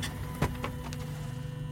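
A steady low rumble of office chair casters rolling across a hard floor as someone sits in the chair and wheels around on it, punctuated by a few soft clicks and bumps, with no voices.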